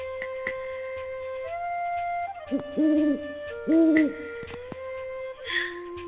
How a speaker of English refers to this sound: I think they're birds. Ooh. It's that special time of the year, too. They know exactly when to come up.